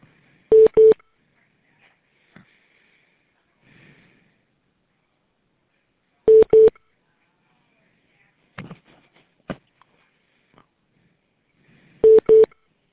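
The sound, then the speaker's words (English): Short electronic keypad beeps come in three separate pairs, spaced several seconds apart, loud and clear. Between the pairs there are a few faint clicks and soft handling noises. “Dustin said he was going to make a phone call.”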